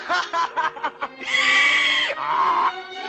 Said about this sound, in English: You sure do. Hey, you laugh like a donkey.